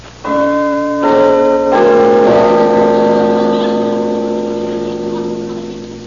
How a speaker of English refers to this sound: Well, let's go in, Tub. Pull the bell handle.